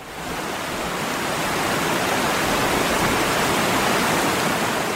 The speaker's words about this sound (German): Oder die herabstürzenden Wassermassen an einem Wasserfall.